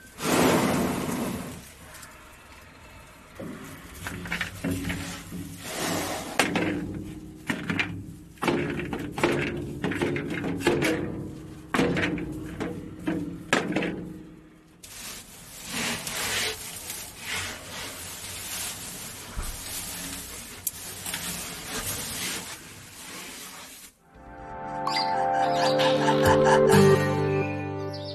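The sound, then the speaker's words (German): An elephant named Tai works a feeder ball full of pellets and plucks hay from a hay rack: repeated loud rattling and clattering with dry rustling and scraping, ending in a harsher, tonal burst. “Und wie das tönt, wenn der Tai die Kugel mit den Pellets bearbeitet und das Heu rauszupft aus der Heuraufe, das hören wir jetzt.”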